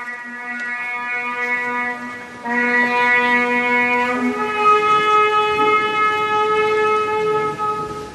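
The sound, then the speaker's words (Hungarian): A ceremonial horn sounds long, steady blasts, holding one brassy note, then stepping to a new pitch twice across three sustained tones. It is loud and rich, with no voices. It accompanies the ceremony opening the last Jubilee Holy Door at the Papal Basilica of Saint Paul Outside the Walls, led by Cardinal James Michael Harvey on Sunday morning, January 5. “A zsoltáros szavai és a kürt hangja kísérte az utolsó szentkapu megnyitásának szertartását a falakon kívüli Szent Pál pápai bazilikában, amelyet január 5-én vasárnap délelőtt James Michael Harvey bíboros érsek vezetett.”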